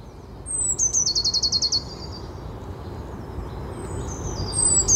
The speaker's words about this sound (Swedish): Här har vi blåmesen i Öxbo. Den ände. Men hör du att det är 2 stycken som en på håll och en nära? Chattrar de med varandra?